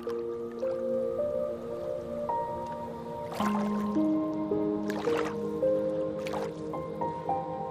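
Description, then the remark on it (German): Three soft, wet plops and splashes as a capybara slips gently into water and floats, landing at intervals over a gentle, steady melodic music bed; no voices. “Kapi plumpst nun sanft ins Wasser und lässt sich einfach treiben.”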